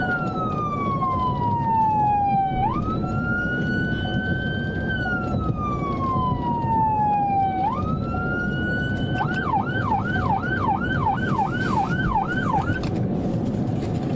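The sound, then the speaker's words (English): A loud police siren wails in long rising and falling sweeps, then switches to a rapid yelping warble, over a steady rumble of road and engine noise, from a deputy's car pursuing a driver who failed to pull over for a traffic stop, recorded on body cam. “Is that a siren?”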